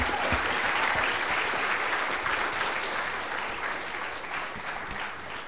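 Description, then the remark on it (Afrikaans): Sustained applause from an audience for a young woman being given a certificate, a dense wash of many hands clapping steadily and loudly, easing off only slightly toward the end. “ons is lief vir jou, en om dis so kostbaar om haar te sien, kom ons geef haar lekker aan een klapje.”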